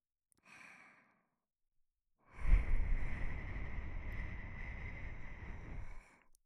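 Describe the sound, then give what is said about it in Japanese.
A short soft inhale, then a long breath blown steadily into the listener's ear for about four seconds, breathy and airy against the microphone, with no talking. “吐息を吹きかけられたり、お耳を舐められたり、”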